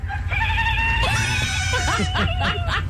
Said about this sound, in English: The goat is my favorite.